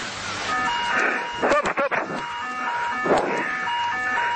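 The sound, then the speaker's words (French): Cockpit alarms sound continuously in an Air France Boeing 777 on final approach, a steady layered electronic tone holding over a noisy background, with a few brief louder bursts of clatter or garbled sound cutting through midway. “Les alarmes retentissent dans le cockpit et les pilotes font tout pour résoudre la situation.”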